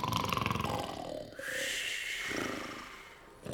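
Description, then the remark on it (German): Loud animal calls overlapping for a few seconds: a harsh pulsing rumble giving way to a long, bright trumpeting cry with rough, roaring texture, as two elephants in a zoo call to each other in the evening, saying good night. “schwatzen noch ein wenig in ihrer Elefantensprache, ein freundliches Gute-Nacht-Terreau, und dann ist Ruhe im Zoo.”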